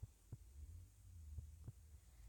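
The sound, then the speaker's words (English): A slow heartbeat with two soft lub-dub pairs, low and muffled, over a faint steady hum. “So just listen to my heartbeat.”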